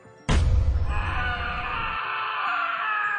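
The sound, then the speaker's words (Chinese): A sudden booming crash erupts into a ghost's long, shrill, eerie scream that wails on at high pitch, loud, with no voices around it. “一声凄厉的尖叫声从背后传来，那个想要趁我阳气降低上我身的鬼魂瞬间就被我背上的乾坤八卦图弹飞了出去。”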